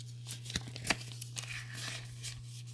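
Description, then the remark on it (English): Paper being handled and rustled, with scattered crinkles and a few sharp snaps over a steady low hum. Nobody speaks. “Oh, let me just get my paper.”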